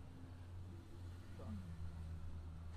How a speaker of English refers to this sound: And the trucks. And motorcycles. Trucks in Riverton. Motorcycles.